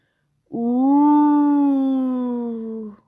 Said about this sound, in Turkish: Kurtlar ulur, kurtlar uluyunca herkes korkar.